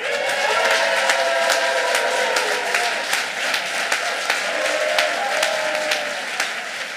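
An audience at the Dynasty Typewriter stage applauds loudly and steadily for several seconds as a performer is welcomed to the stage, a dense wash of many hands clapping, with some cheering voices mixed in before it eases off slightly at the end.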